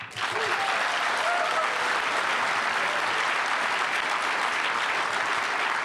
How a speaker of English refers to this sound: He's winning on the applause meter.